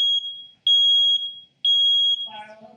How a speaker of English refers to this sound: Oh, the smoke alarm. Who else has deactivated that? You shouldn't be doing that, but that does get very loud.